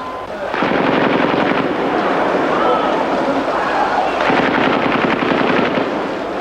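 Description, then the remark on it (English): Two long bursts of rapid automatic gunfire from troops rattle out, loud and fast-paced, separated by a stretch of lower, scattered noise before the second burst. “As troops opened up again in our direction half an hour later, this time with bursts of automatic fire”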